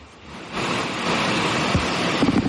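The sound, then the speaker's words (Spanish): Steady rain falling in Las Palmas de Gran Canaria hisses as a dense, even wash of noise that swells in after a quieter start and holds for a couple of seconds, with a few faint low tones near the end. “Eso que se escucha es lluvia, aquí ahora mismo en Las Palmas de Gran Canaria.”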